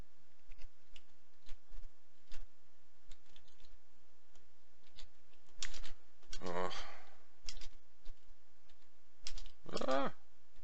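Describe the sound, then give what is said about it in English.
Computer keyboard typing, a steady patter of quick, irregular key clicks running through the whole stretch, interrupted by two brief, louder muffled voice-like bursts. “Sorry, my keyboard's like, just, I think it might be because I'm streaming at the same time.”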